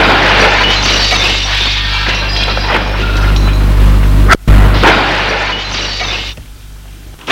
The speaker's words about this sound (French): Il voit sur la commode un vase. Il le prend et le jette.